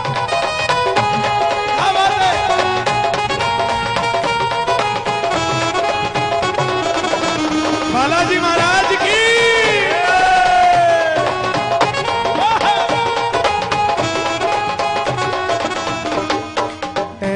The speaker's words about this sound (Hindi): दोनों हाथ खोल के, दोनों हाथ खोल के, तीन मार्च लुधियाना, दोनों हाथ खोल के एक बार जरा ताली बजा के, एक दो तीन चार।